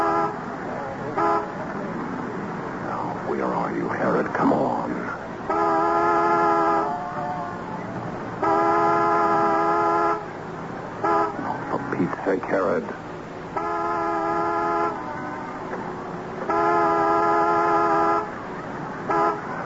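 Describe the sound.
A car horn blares as a reminder signal in a series of long, loud honks with short pauses between them, while indistinct voices break in during the gaps.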